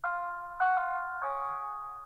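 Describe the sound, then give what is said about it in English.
A three-note electronic announcement chime from the video game Arkham Asylum, the one heard every time the Joker is about to make an announcement, used as a buzzer, rings out loud and clear, each sustained tone stepping into the next over about two seconds, with no voices. “It's the chime that we hear every time the Joker is about to make an announcement.”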